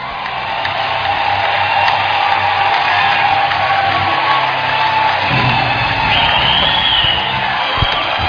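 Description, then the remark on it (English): An audience, told to clap their hands in praise of God, claps and cheers in a steady, dense roar of hands and voices that holds at an even loudness for several seconds, with occasional whoops rising out of the crowd noise. “Clap your hands.”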